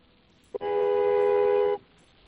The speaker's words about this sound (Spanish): ¿puedes acercar un poco más el móvil al sonido de la bocina y darle otro toque un par de segunditos a ver cómo suena? Que tengo una duda.